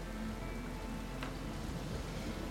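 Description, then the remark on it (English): Steady rain falling on a summer's day, a soft continuous patter and hiss that stays even throughout, with no voices and a faint low rumble underneath. “Nothing with more importance than relaxing with me on this rainy summer's day.”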